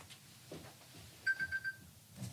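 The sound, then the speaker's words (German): An alarm clock left switched on goes off with a quick run of four shrill electronic beeps, each bright and steady in pitch, rising briefly above a faint, murmuring background. “Da hat wohl jemand seinen Wecker angelassen.”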